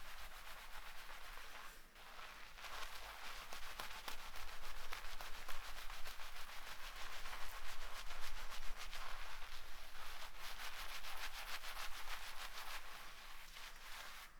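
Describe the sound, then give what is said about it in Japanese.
Continuous scrubbing of shampoo lather on a scalp, worked gently from the side hairline toward the top of the head without using nails; a soft, steady rubbing and crackling foam texture lasting throughout with brief pauses, no one speaking. “横の生え際から頭のてっぺんに向かって、爪を立てないように優しくシャカシャカシャカシャカさっきより触り心地が滑らかになってきたね。”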